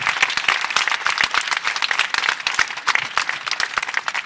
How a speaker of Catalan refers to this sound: Un aplaudiment també per tots els conserges.